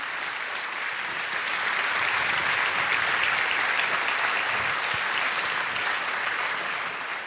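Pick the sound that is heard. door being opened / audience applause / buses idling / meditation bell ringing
audience applause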